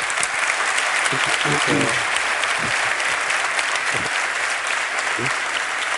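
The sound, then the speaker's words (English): A crowd in Sweden claps steadily and loudly for several seconds, a dense, even wash of applause, with a few faint voices calling out underneath, applauding as thanks to a guest for coming to Sweden. “I hope you get applause for that.”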